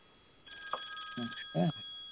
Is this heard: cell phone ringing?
yes